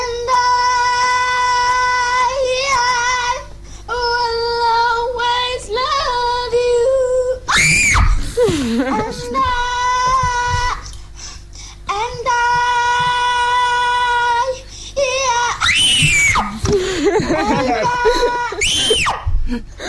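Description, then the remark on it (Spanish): A girl in a video screams again and again in long, high, sustained bursts, loud and shrill, with brief gaps between them and a few sharper wavering cries mixed in. “Y no puede con su vida y entonces empieza a gritar.”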